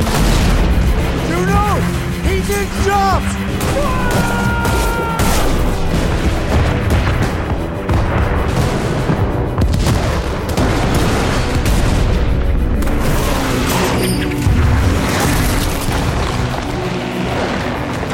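cannon firing

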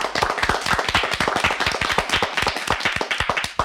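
audience clapping hands

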